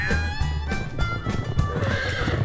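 A horse whinnies loudly, a long wavering neigh that carries through the whole moment, with soft thuds of hooves shuffling underneath.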